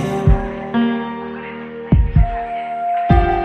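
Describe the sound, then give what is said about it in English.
A steady, layered electronic hum of machines drones throughout, punctuated by deep, heavy thumps that land irregularly like a slow heartbeat, some in quick double pairs. No voices are present. “The lull of these machines, keeping time with every heartbeat.”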